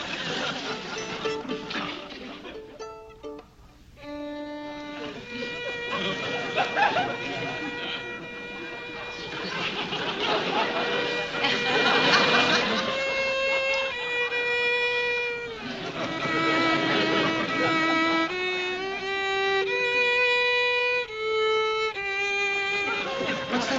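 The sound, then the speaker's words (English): The commandant plays a violin badly for over twenty seconds: screechy, wavering sustained notes that slide and wobble in pitch, with scratchy bow noise, loud and alone without any talking. “Somebody is strangling a cat. It's our beloved commandant. Mm. He's having a go at the violin.”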